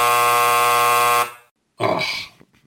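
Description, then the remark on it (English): A loud, harsh game show buzzer, sounded when a quiz player has no answer, blares steadily for just over a second and cuts off, followed after a brief pause by a short, rough vocal groan. “Well, you're going to get the buzzer about right now.”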